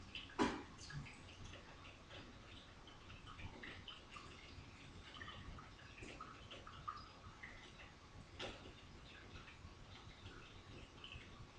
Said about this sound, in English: Let's take a moment of silence to center ourselves to the sound of brewing coffee. It's a bubbling brook.